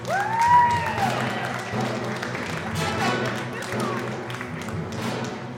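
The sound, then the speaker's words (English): A crowd applauds steadily with dense, continuous clapping as a comedy show panelist is introduced. A whistle or whoop rises briefly near the start, and cheering voices are mixed in throughout. “Please give it up for”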